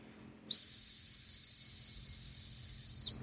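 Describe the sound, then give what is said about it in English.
A 3D printed dog whistle gives one long, piercing blast lasting about two and a half seconds, loud, holding a steady high pitch before cutting off abruptly. No one speaks. “It's a 3D printed product, and it's literally just a dog whistle.”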